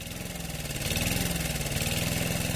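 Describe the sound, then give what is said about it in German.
A small lawn mower engine runs steadily at a fairly loud level, its rapid chugging pulse holding an even idle-like rhythm throughout with no talking. “Ein Rasenmäher.”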